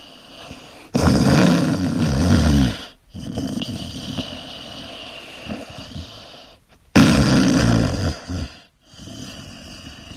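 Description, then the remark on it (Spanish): Loud, rasping snores: two heavy, rattling snorts a few seconds apart, with a quieter wheezy breath rumbling between them and no talking. “¿Me puedo ir ya o hay que esperar al final de los ronquidos”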